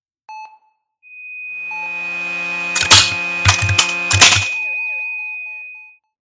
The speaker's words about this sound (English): The beeping continues its dig. It's deafening until...